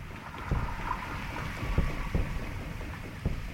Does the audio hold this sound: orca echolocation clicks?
yes